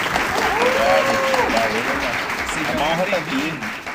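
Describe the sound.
A sustained round of applause welcoming an interview guest, dense and steady clapping at a fairly loud level, with voices and cheering mixed in underneath throughout.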